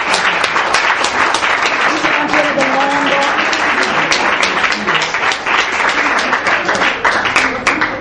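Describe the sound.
Sustained audience applause during a plaque presentation by the Comune di Castelmaggiore for the Progresso Fontana club, dense and steady for about eight seconds, with individual sharp claps standing out and faint voices murmuring underneath.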